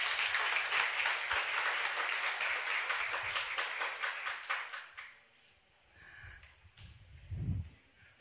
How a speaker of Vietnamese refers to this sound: Và bây giờ là những đóa hoa tươi thắm, những phần quà nhỏ xinh bằng tấm lòng chúng con xin gửi lên cha và xin cộng đoàn một tràng pháo tay ạ.